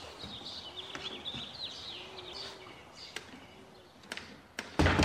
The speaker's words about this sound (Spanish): Frunce el ceño y cierra la puerta.